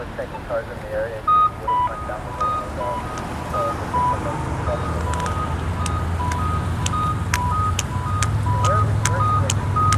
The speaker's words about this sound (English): There's two beeping. One on my left, one on my right.